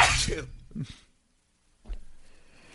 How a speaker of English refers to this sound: hit the sneeze button.